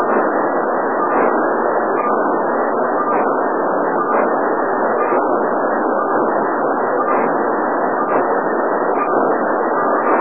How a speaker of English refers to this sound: That little noise just appeared here a few weeks ago, and it's a mystery signal. Yeah, it is kind of unusual, isn't it? You're talking about that pulse?